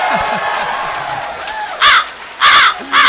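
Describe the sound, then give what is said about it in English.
Over a murmuring comedy-show crowd in Portland, audience members let out three loud, harsh crow-like caws in quick succession, voices imitating crows, each call rising sharply above the background chatter. “Ooh, the Portland Crow is howling right now.”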